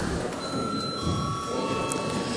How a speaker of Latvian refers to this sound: Paldies, lūdzu zvanu.